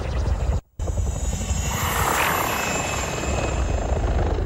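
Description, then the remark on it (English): A loud, steady rotor buzz fills the air in a misty crater, briefly cutting out before swelling back with a rising whine as a drone whizzes past overhead. “The drone whizzes past.”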